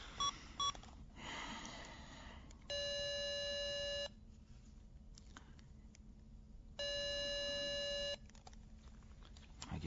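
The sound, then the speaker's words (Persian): A few quick keypad beeps, then a steady telephone ringing tone sounds twice in long, evenly spaced bursts with quiet gaps between them, over faint background hiss. “میخوام یه تلفن بزنم.”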